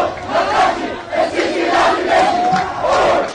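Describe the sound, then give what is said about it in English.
A large crowd of demonstrators in Hong Kong, out in the street for the 17th straight week, shouts and chants together, a dense, continuous roar of many voices with rising surges and one drawn-out yell standing out near the end. “This weekend in Hong Kong, for example, demonstrators took to the streets for the 17th straight week, timing their activism with the 70th anniversary of Communist Party rule in China.”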